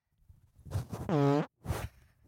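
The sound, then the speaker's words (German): A loud fart right up against the microphone: a short sputtering burst, then a sustained buzzy, tonal blast lasting about half a second, followed by one more brief raspy puff. “Wie lange habe ich nicht mehr ins Mikro gefurzt?”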